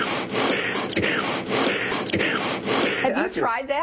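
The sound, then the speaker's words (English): Forceful alternate nostril breathing, holding one nostril and exhaling through the other: a steady run of inhales and exhales with a few sharp catches, before a voice starts speaking at the very end. “Alternate nostril breathing.”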